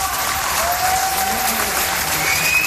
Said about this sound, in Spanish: El sonido de los aplausos. Después de un día en el que las calles estaban en silencio, llegaban los aplausos.